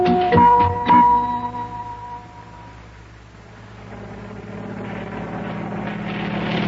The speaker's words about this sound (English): It's a helicopter. Hey, now, what's that doing way over here over the ocean? It says U.S. Mail on the side. Is that helicopter bringing us mail?